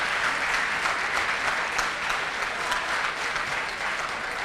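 Steady audience applause in a theatre, a dense crackle of many hands clapping at an even, sustained loudness for several seconds with no voices standing out.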